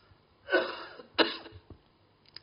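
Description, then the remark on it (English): Two coughs in quick succession, fairly loud, each a harsh burst with a short raspy tail, followed by a faint throaty sound and quiet breathing. The cough comes from an itchy throat caused by a fan and air conditioning, in someone recovering from a cough. No talking. “The fan and the aircon is causing my throat to be itchy. You know, I just recovering from the cough.”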